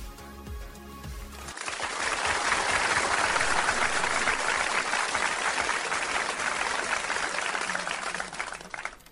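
A short musical chord gives way to a burst of audience applause welcoming a teacher to the Digital Lecture segment of the evening Digital World program, dense and steady clapping that stays loud for several seconds before easing slightly, with no voices over it.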